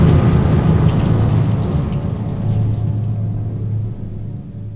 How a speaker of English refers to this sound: but lightning strikes the mighty mountain and the skies begin to glow.